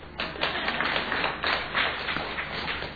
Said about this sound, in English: You can clap there if you want.